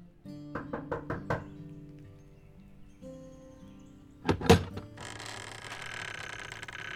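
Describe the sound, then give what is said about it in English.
Five quick, evenly spaced knocks rap on a door at an address in Collinsville, Illinois, followed after a pause by a louder clunk and a steady hiss of background noise, with no voices. “When she knocked, an elderly woman opened the door.”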